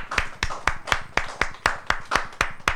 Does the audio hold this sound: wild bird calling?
no